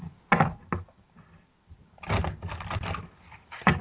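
Playing cards being shuffled: a few sharp snaps, then a longer rapid riffling flutter, and a final snap. Moderately loud, with no voices.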